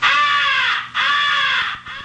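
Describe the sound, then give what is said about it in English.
Two loud, harsh caws from a crow call blown through a game call, each drawn out and raspy, with a brief gap between them and no talking. “Through your call, it will sound like this.”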